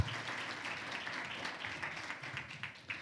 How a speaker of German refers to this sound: Ich danke Ihnen beiden für die Einblicke, die Sie uns gewährt haben, und würde gleich zur nächsten Gruppe überleiten. Ihr Applaus.